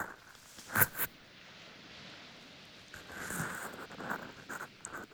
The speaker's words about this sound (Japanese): 波の音が気持ちいいですね。